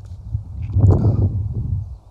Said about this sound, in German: Ja, man hört es wahrscheinlich ein bisschen. Hier ist etwas Wind angesagt.